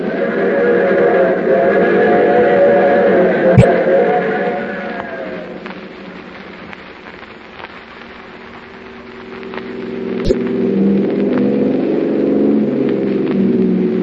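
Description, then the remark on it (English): A car's steady engine drone with a low rumble runs throughout as it drives in pursuit of another car ahead, shifting in pitch midway as if the car changes speed, with two sharp clicks standing out. No one speaks. “That's her car up ahead. Faster, Paul.”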